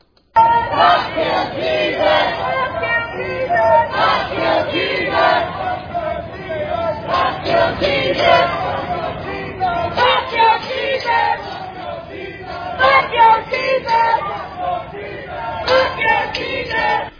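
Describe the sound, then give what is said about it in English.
A large crowd of Black Lives Matter protesters in front of the White House screams and chants "F your Jesus" in loud, rhythmic bursts, many voices shouting together over a continuous roar that barely lets up for the whole stretch. “That was Black Lives Matter, and they were screaming and chanting, F your Jesus.”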